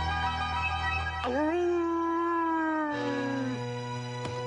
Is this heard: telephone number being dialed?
no